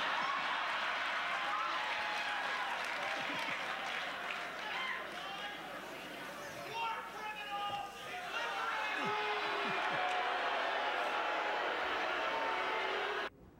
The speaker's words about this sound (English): Some of them even turned on their one-time hero, Dick Cheney, booing him when he came out to give Rumsfeld the Defender of the Constitution Award.